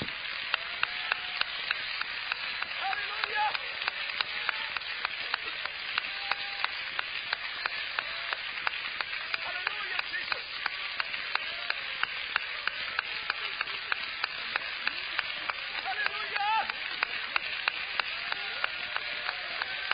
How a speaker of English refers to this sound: Let's clap again, because there is faith and there is appreciation and there is joy in this congregation today.